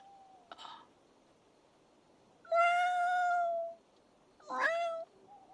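A cat meows three times close by: a short faint chirp, then a long drawn-out wail, then a quicker rising meow, with quiet pauses between and no talking.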